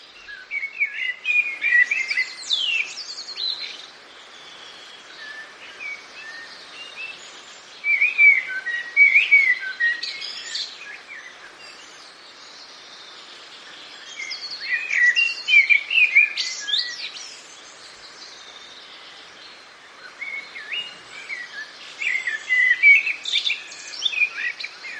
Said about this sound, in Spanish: Y del ruiseñor pasamos al pájaro más humano, o más pajaril en este caso, el segundo del top, que sería el mirlo.